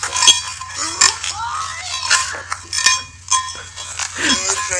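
A little bell jingles and clinks irregularly over chaotic scuffling and thumping as a goat attacks a man filming on his phone, with occasional bleat-like animal cries and a steady low hum underneath.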